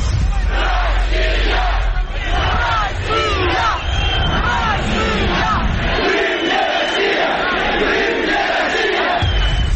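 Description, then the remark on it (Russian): A large, dense crowd of tens of thousands at a rally outside the Verkhovna Rada of Crimea on 26 February 2014 shouts and chants loudly and continuously, some for Ukraine and some for Russia, many voices overlapping in a roaring, agitated din. “Каждый кричал свое. Мы за Украину кричали, они за Россию кричали.”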